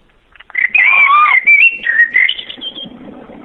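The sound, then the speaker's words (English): A rapid, warbling run of high bird-like chirps and whistles, fairly loud, lasting a few seconds before fading out, with no talking. “It's birds, Ian.”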